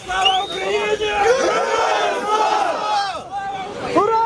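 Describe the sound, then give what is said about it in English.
A crowd cheers and shouts jubilantly as Ukrainians freed from Russian captivity in a prisoner exchange arrive by bus and are greeted with hugs, many voices overlapping in loud, sustained whoops and rising cries with no pause, swelling again near the end. “Glæden var stor, da ukrainere, der har været under russisk fangenskab, ankom med bus til et ukendt sted og blev modtaget med kram og jubel.”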